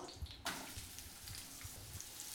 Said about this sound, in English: Yeah, you're going to saute those up. Ooh, I like that sound. You did a fine job slicing these onions.